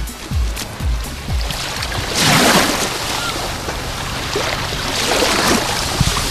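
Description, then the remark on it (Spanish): Waves wash onto the sandy beach at Salobreña in summer, a broad hissing surge swelling around the middle and again near the end, with low thuds and rumble underneath. Fairly loud, with no voices. “sobre la arena de la playa, disfrutando de un ambiente veraniego fantástico de Salobreña, y sobre todo escuchando este sonido, el del mar de Salobreña.”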